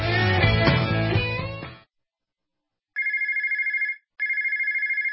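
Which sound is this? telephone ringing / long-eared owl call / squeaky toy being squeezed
telephone ringing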